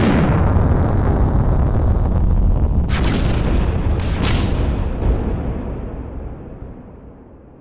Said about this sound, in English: The ship soared downwards without any passengers, proceeded to perform a nosedive straight into a rocky outcrop, and crumpled into a burning, smoking heap of metal.